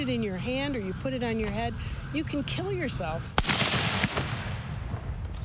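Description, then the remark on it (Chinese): Voices call out over background noise, then a single sharp, loud consumer firework blast bursts, followed by a hissing, crackling tail and a smaller pop before fading. “When you buy and use illegal consumer firework, 当你购买合法烟花产品时要十分小心，因为威力很强。”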